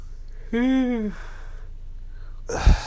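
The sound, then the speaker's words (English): A single drawn-out vocal yawn with a falling pitch, moderately loud, lasting about half a second, followed after a pause by a short breathy exhale. “Sorry to yawn.”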